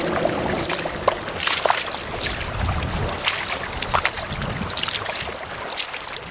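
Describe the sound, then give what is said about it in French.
Steady rushing of an underground stream flowing through a cave, fairly loud, with irregular splashes and gurgles breaking through. “Je vais suivre le ruisseau souterrain qui suit une longue calorie.”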